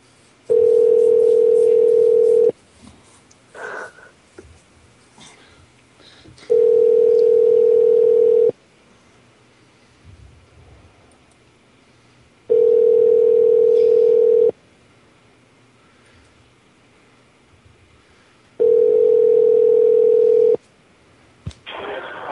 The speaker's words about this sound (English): You taking so long to answer the fucking phone.